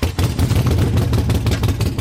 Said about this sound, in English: Notice that classic growl, what riders call the potato-potato coming out of the exhaust.